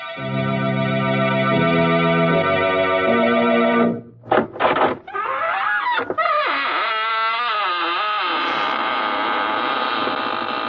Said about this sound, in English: This is your host, Raymond, inviting you in through the squeaking door.